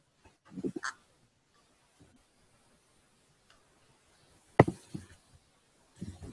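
Brief clusters of soft clicking from keys on a computer keyboard as someone types up a comment, coming in three short bursts separated by quiet gaps, fairly faint, with no talking.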